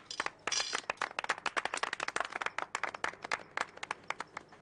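A small group claps for several seconds, a steady patter of overlapping sharp hand claps at a moderate level with no voices over it.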